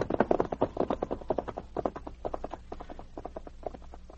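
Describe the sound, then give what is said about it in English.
Three ridden horses' hooves clip-clop in a quick, steady rhythm of sharp knocks, moderately loud, with no voices, the pace easing slightly toward the end as they arrive at a cabin. “Arriving at the Mellow place, David and the two crooks put their horses in a lean-to at the back”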